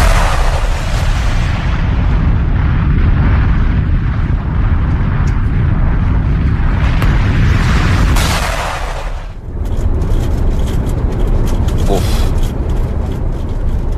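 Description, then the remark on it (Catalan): Strong, cold wind buffets the microphone outdoors while it is snowing, in a loud, continuous low roar with gusty surges, easing briefly about two-thirds of the way through before battering back in. “Quin fred, tu. Fred, vent, està nevant i tot, o sigui que...”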